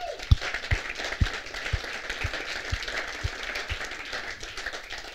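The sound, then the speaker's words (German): Steady crowd applause at a seminar for the host audience from Sindelfingen, a dense wash of many hands clapping, with a series of low rhythmic thumps about twice per second that fade out before the end. “Das sind die Sindelfinger und euch möchte ich ganz, ganz herzlich Dankeschön sagen und einmal mal einen Applaus an euch richten.”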